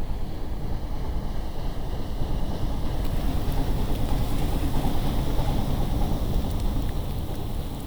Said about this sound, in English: I find that the paddle boats on the Vltava become, for me, BC ferries. The wake is different when it hits the shore. On the Vltava, it's hitting stone that is hewn, a man-made stone.